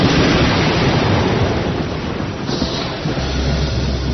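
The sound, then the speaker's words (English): Loud, roaring wind churns over a steady wash of crashing ocean waves, a dense, continuous rush of noise with a deep rumble underneath and no voices. “And ever and again, even the roar of the wind was drowned as the vast water mountains met head-on with a crash that seemed to shake the sky.”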